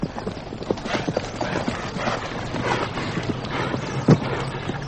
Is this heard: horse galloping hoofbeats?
yes